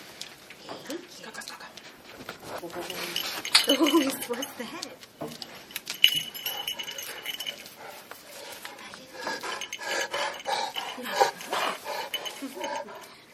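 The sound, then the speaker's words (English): Kay, a Leonberger guide dog, a sturdy long-haired dog of German breed weighing 64 kilos, pants with quick breathy huffs in an uneven rhythm with some rasping, scuffling movement noises mixed in throughout. “Kay är en Leonberger, en stadig tyskättad långhårig vovve på 64 modiga kilo.”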